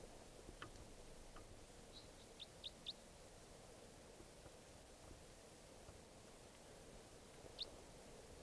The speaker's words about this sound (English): Crossbill here, wild type 4.